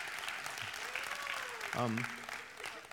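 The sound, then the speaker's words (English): An audience claps steadily for about three seconds, a dense, even patter of many hands, with a brief voice rising above it partway through. “I would appreciate some applause right there.”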